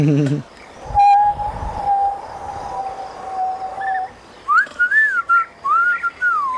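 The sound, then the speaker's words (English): A person whistles a tune in imitation of a rooster: first a long steady whistled note, then several short rising-and-falling whistled phrases, clear, with no talking. “Like, he is whistling like this, but I'm not very good.”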